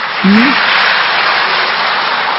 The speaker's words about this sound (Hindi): राय बगान स्ट्रीट से देखो, कलकत्ता से कितना दूर से आए हैं भाई, ताली बजाओ इनके लिए।